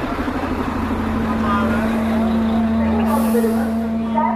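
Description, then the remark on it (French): Buses from the south of Turkey carrying refugees arrive at the bus station in Izmir, Turkey: a steady diesel engine drone fills the scene, and a sharp air-brake hiss bursts out near the end, with faint voices in the background. “On va s'éloigner, il y a des bus qui arrivent de partout.”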